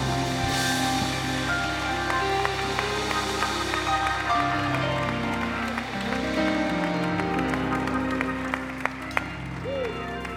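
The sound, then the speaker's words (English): An audience claps hands in a steady, sustained wash of applause, blended with ongoing music and scattered voices throughout. “I wonder right now, can you clap your hands like you believe we're able in this house?”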